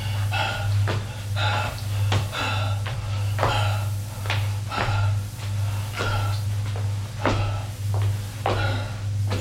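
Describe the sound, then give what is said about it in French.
Steady, evenly paced footsteps thud along a hard corridor floor, about a dozen steps at a walking rhythm, over a constant low droning hum. “Longe le couloir.”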